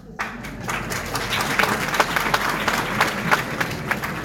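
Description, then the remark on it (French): Steady audience applause: many hands clapping in a dense, crackling wash that starts abruptly and holds at an even, fairly loud level throughout, with a murmur of crowd beneath. “Vos applaudissements sont entendus.”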